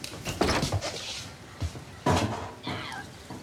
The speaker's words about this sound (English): He opens the back door with difficulty and stands staring out as light floods into the gloomy kitchen.